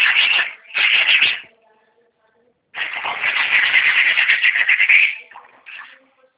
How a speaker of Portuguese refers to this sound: Tá lixando a parede aí?